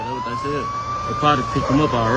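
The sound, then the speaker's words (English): An ambulance siren holds a long, steady wailing tone in the background while people talk over it. The siren stays clear and continuous throughout. “They probably picked him up already. I don't see no more ambulance.”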